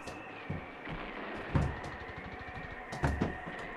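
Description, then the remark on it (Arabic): A door, off its hinges but blocked by piles of stones and bricks, is shoved repeatedly, giving several heavy thuds and rattling bumps at irregular intervals, with a low steady hum underneath and no voices. “ربما ثمة شيء يعيق فتحها.”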